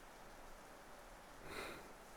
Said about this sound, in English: No, you aren't, huh? So you're just perfectly content to sleep out here under a shitty roof in the rain.